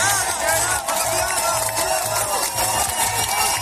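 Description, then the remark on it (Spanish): A dense crowd shouts and cheers at Tehran airport, welcoming Iranian climber Elnaz Rekabi with cries of champion, many voices overlapping in a loud, continuous roar with a steady pulsing rhythm like a chant running through it. “Hoy ha sido recibida en el aeropuerto de Teherán con gritos de campeona.”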